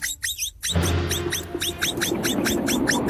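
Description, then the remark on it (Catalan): A capybara gives a quick, steady run of high, chirping squeaks, roughly a dozen in a row, over a low, continuous rumble that starts just after the first few calls. “No són els falcons. Era una capibara.”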